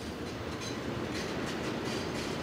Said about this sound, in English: Is that another damn train? This is getting ridiculous. Yeah, here's another train over here. That sounds like another freight train. It's a second freight train. Unbelievable.